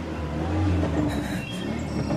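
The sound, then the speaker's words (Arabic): A car approaches, its engine a steady, loud low drone with a faint whine above it, swelling slightly before holding level. No one speaks. “ما هذه السيارة؟”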